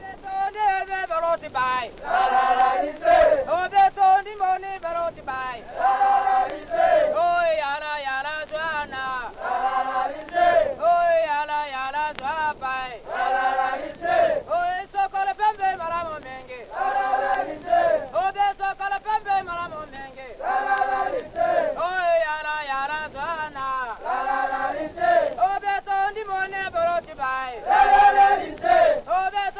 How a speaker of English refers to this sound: this is one of the songs we heard as the elephants were being ridden down to the Napoco River